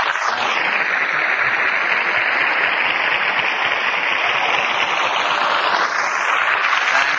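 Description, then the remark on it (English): A studio audience applauds loudly and steadily as Fred Allen is introduced in person, a dense wash of many hands clapping that holds at an even level for several seconds with no one speaking over it. “Even with the applause card upside down, I've been upset all day.”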